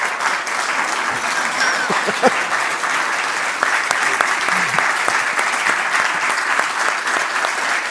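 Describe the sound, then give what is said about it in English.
An audience in a church claps steadily for the full eight seconds to congratulate a man on a job well done, a dense, even wash of many hands at a fairly loud, constant level with no voices rising above it. “You get an applause.”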